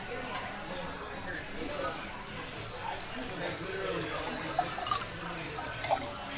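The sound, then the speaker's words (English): Water is poured to refill a glass, a steady liquid trickle with a few light clinks near the end, over a low murmur of background voices. “Oh, I need a refill, please. You need to refill some water.”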